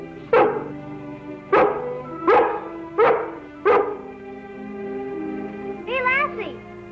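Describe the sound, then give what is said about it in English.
A dog barks five times in a loose, steady rhythm, each bark sharp, then lets out a short rising whine before falling quiet. “Golly, I wish I had a dog like you.”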